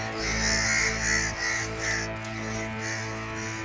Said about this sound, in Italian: Sbucando da una stretta gola, ci spaventò un volo di cornacchie, alzatosi d'improvviso in una tempesta di ali e di grida abominevoli.